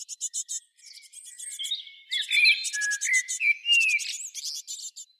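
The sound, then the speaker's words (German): Several birds chirp and sing in a continuous high-pitched chorus, with rapid repeated tweets layered over clear whistled song phrases, steady throughout. “Jetzt, damit sich eure Ohren noch ein bisschen entspannen können, Vogelgezwitscher.”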